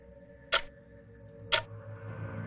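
clock ticking

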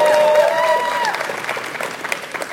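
audience screaming and cheering

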